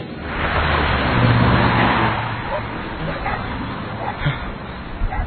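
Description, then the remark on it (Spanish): A pack of several dogs barks and yips in short, scattered bursts as they chase a female dog in heat, beneath a loud rush of passing traffic, with a car's broad whoosh dominating the first couple of seconds. “Una pandilla de perros detrás de una hembra que también está en celo.”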